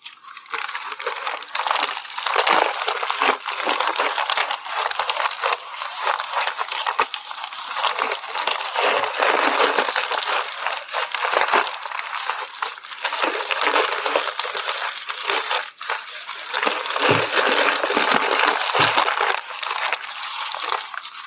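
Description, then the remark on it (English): Continuous crinkling and rustling of silver and gold tissue paper as two gifts are unwrapped, with dense crackly bursts rising and falling for about twenty seconds and no talking. “One of them was wrapped in the silver tissue paper, and the other was wrapped in the gold tissue paper.”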